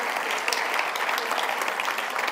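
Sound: audience applauding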